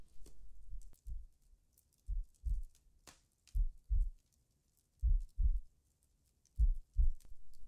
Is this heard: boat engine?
no